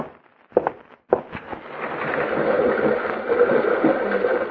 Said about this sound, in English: Open the window, son. I've a hankering to hear the big Rocky River rushing by down there in the gorge.